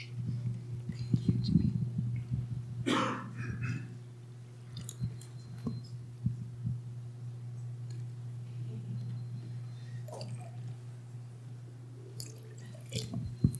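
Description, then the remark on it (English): Water representing a stream in front of a house in Colorado Springs, in the Garden of the Gods watershed, being poured in short, separate splashes and drips, fairly quiet, over a steady low hum, with faint murmuring in the background. “This water represents the stream flowing in front of my son J.R. and his wife Liv's house in Colorado Springs, which is the watershed, and it's the watershed, that's little creek is the watershed of the Garden of the Gods.”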